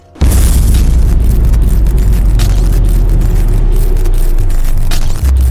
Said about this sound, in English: And that's when the explosion and light show begins.